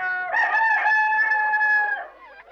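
A rooster crows once, a loud, drawn-out cock-a-doodle-doo that holds steady for over a second before trailing off, with no voices.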